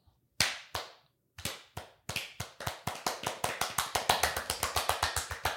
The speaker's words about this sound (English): Wow, you can clap faster than me.